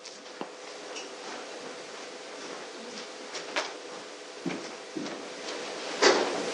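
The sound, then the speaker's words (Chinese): Chairs being shuffled and dragged around a room by church members arranging them into a circle for group discussion: scattered scrapes and wooden bumps over a steady low bustle, with a louder clatter near the end and no clear talking. “好，没有，那我们弟兄姊妹就把这个椅子摆一摆围成一个圈，我们可以一起来分享讨论。”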